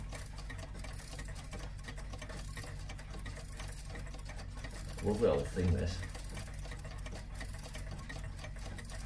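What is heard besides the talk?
wind-up clock ticking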